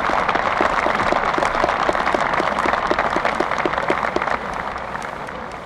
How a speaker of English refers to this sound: The applause permits us to show the special recognition that we believe you merit.